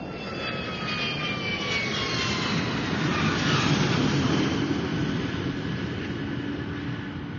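A steady, loud jet engine roar fills the whole stretch, a broad rushing rumble with high whining tones that slowly slide downward, from an airplane on a flight to England.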